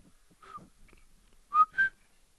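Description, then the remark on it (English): Two short, clear whistled notes in quick succession, the first lower and the second higher, preceded by a fainter brief whistle; no talking. A person whistles the low-high tone pattern of the word pita, meaning take. “Okay, can you whistle that one for me?”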